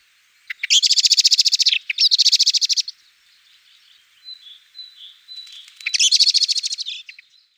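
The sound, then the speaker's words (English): A blackbird's loud, rapid alarm call rattles out in three insistent bursts of sharp repeated notes, clear, with quieter chirps between the second and third bursts. “The loud alarm call is familiar to most of us.”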